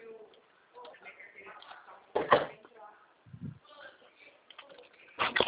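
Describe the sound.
A door is pushed shut with a short, sharp knock, followed by another similar thud a few seconds later, while people talk throughout.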